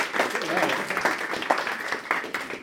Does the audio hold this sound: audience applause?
yes